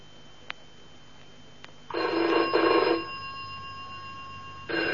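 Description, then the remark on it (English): A telephone bell rings loudly in a double burst, goes quiet for a couple of seconds, then starts ringing again. No one speaks. “All right, Mark, I'll answer it. Chelsea 1492?”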